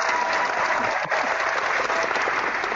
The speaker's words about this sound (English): And the crowd roars.